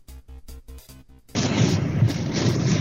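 A quick run of about five evenly spaced booming pops gives way to a sudden, loud, sustained crackling roar as lightning strikes the Blue Line UIC train stop during storms around 6 p.m., causing explosions, fire and a canopy collapse.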